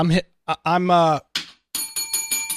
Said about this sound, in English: I'm ringing the bell, Brian, on his channel. Bell, yeah. I'm slamming the bell from across the interwebs.